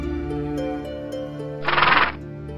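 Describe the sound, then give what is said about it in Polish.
A horse, tied to an old birch tree at a crossroads and shifting its hooves, whinnies: a long wavering neigh that swells into a loud, breathy, fluttering snort near the end before cutting off. No voices are heard. “Koń pozostawiony na rozstajach, uwiązany do starej brzozy, przebiera kopytami, jakby deptał ogień.”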